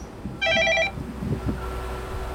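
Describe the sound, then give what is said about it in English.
A phone rings once to call the construction elevator during a bridge demolition: a brief, loud, rapidly trilling electronic tone lasting about half a second, over a steady low rumbling background with no talking. “This is calling the construction elevator.”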